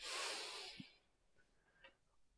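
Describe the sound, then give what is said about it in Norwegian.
A soft, airy inhale at the start of a guided breathing exercise, lasting about a second, a hissy rush of breath that fades out, followed by quiet with a few faint clicks and small sounds. “Da starter vi med å puste inn.”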